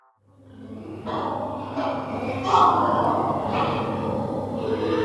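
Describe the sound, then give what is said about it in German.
Hundreds of pigs at a pig fattening farm with several barns, heard from a forest: a steady mass of low rumbling grunts blending with repeated harsh snorts and squeal-like bursts, continuous and fairly loud throughout, with no clear speech. “Wir stehen in diesem Wald, wir hören Geräusche von Schweinen aus diesem Betrieb.”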